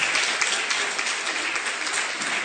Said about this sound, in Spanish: Vamos a darles el aplauso para ella, por favor. A nuestros instructores, a nuestras guías.